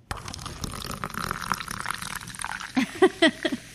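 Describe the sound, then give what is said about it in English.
A fizzy soft drink is poured into a cup, a steady splashing fill that rises in pitch as it goes, ending with a few short, louder bursts. “Try our fizzy pop drinks.”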